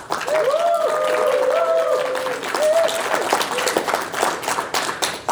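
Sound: audience cheering and applause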